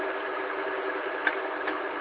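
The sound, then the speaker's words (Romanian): An electric fan whirs steadily with a constant, even hum, broken only by a couple of faint clicks near the end. No one speaks. “Așa, nu știam ce gălzi, că era un ventilator aici și face gălăzie.”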